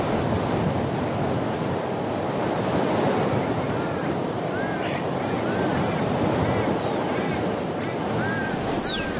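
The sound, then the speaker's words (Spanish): A steady roar of wind and storm noise over the plains, like surf or gusting air, fills the whole stretch at constant loudness, with faint chirping calls flickering high above it. “Sonidos y ruidos del viento y la tormenta.”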